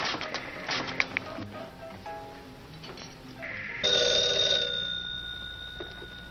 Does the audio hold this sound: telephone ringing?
yes